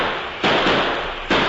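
Two loud, sharp explosion blasts about a second apart, blasting open a door during a holdup, each a harsh burst of noise that lingers briefly over a steady background hiss. No one speaks.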